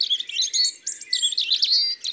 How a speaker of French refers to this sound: À entendre son chant si délicat, on pourrait croire que le rouge-gorge est d'un tempérament tranquille.